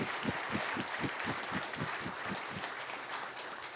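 An audience claps together, a dense, steady wash of applause with a regular rhythmic pulse running through the first few seconds before it evens out. No one speaks.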